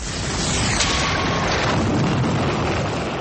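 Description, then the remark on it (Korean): A volcanic eruption of Mount Vesuvius on the Bay of Naples, Italy, in AD 79 roars on continuously, a loud, dense rumble thick with deep booming low end and hissing noise, sustained without pause and with no voices. “이탈리아 나폴리만 연안에 있는 베수비오 산에서 화산이 폭발했습니다.”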